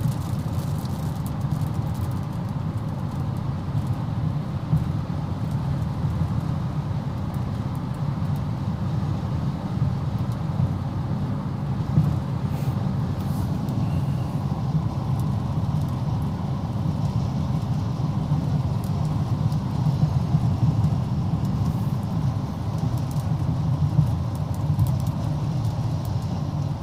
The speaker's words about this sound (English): Yeah, looks like we're getting a little bit of a rain shower here.